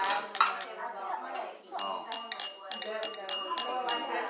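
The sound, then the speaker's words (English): Glasses clink together in a toast, again and again in a quick, uneven series of bright, ringing taps, while voices murmur and talk underneath. “Can we clink the...”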